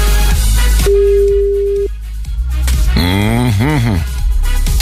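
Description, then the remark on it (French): A single steady ringback tone sounds for about a second, the hum of an outgoing phone call from a radio show to a listener in Vendeuvre-sur-Barse in the Aube waiting to connect, followed by a short stretch of a voice speaking. “le téléphone va sonner.”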